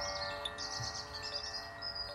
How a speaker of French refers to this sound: le son des oiseaux.